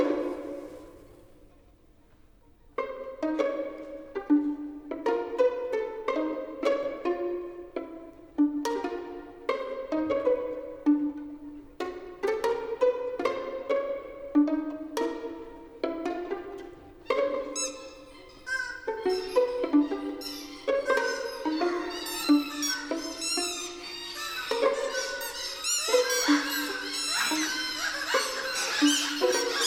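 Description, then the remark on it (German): Orchestral music imitating a henhouse, the opening of a second symphony: nervous, staccato instrumental figures peep and cluck like chicks and pecking hens, growing denser and brighter as the passage builds. No one speaks. “Statt Filmmusik nun mögliches Kopfkino, zum Beispiel ein Hühnerstall, nervös piepsende Küken, vorsichtig pickende Hühner.”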